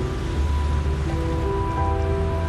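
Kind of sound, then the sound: nature, waterfall rushing water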